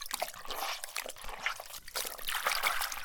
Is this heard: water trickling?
yes